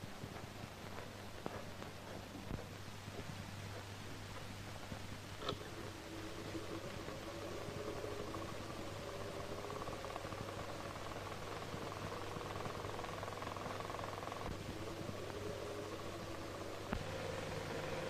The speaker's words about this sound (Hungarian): A ventilátort indítsd meg.